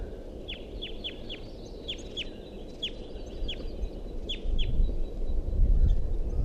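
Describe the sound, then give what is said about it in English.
Nestling begging calls from a nest tree: about ten thin, high, downslurred squeaks repeated in quick irregular bursts over a steady low rumble that grows louder toward the end. “And there continues to be a begging call sound from the nest tree, which I thought there was a nest in before.”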